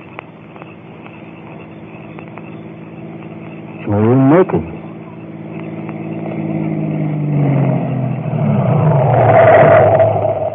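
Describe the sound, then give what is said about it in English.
A car engine hums steadily and grows gradually louder as the vehicle approaches along a road, with a brief revving surge partway through. A voice briefly speaks over it. “Car coming down the road.”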